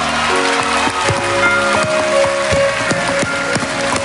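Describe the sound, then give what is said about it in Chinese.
An audience applauds with steady, dense clapping that runs the full length, a few sharper claps standing out, while sustained musical tones hum faintly underneath. “我哋俾啲掌声啊”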